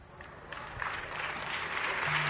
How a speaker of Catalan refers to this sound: Mira, enganxem els aplaudiments.